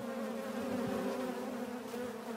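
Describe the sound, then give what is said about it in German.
A steady, dense drone of kept honeybees buzzing continuously in a garden where beekeeping is practised, a swarm humming at an even pitch with no voices present. “Bienenzucht und der Anbau von Knoblauch gehören auch dazu.”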